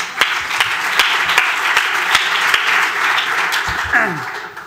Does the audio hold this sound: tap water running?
no